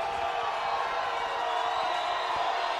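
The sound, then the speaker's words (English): A packed stadium crowd at Barlow Stadium in Sandpoint roars and cheers at a football game, a steady, dense wall of noise that holds loud and unbroken throughout, with no single voice standing out. “This live crowd here at Sandpoint in Barlow Stadium, Chris, it's a packed house down below us.”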